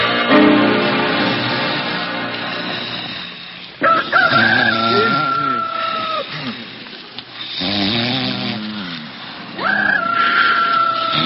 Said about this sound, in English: What's that? So what's to get excited? A rooster? A rooster? You know, a he chicken. Holy cow, it's daylight already.